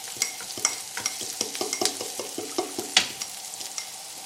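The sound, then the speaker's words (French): A spoon scrapes and stirs onion in hot oil in a wok, making repeated clattering strokes in a loose steady rhythm over a constant bright hiss of frying. No one speaks. “Donc, tu ajoutes l'oignon.”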